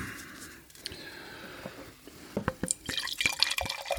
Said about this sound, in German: Das ist nicht geil, man kann auch so skrupellos einfach wirklich das Glas vollhauen.